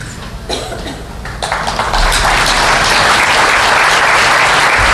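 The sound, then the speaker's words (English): A church audience breaks into applause, scattered claps at first that swell within a couple of seconds into steady, loud clapping from a crowd, with no voices heard. “But before you clap, I want you to know you ain't enough.”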